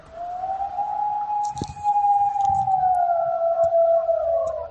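A wolf near the village of Navelgas in Tineo lets out one long, sustained howl that rises slightly, holds a steady mid pitch, then slowly sinks, with faint rustling and thumps beneath it.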